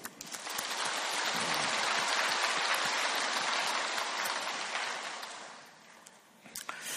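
An audience claps together in a dense, steady burst of applause that holds for about five seconds, then thins out and tapers off, with a few last scattered claps.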